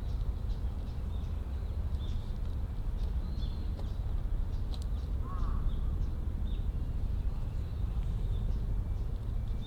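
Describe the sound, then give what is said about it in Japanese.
Scattered bird calls and short chirps sound over a steady outdoor rumble, with one clearer call midway through; no one speaks. “鳥の種類虫の種類とかを数えるんじゃなくて、声の種類を数えます。”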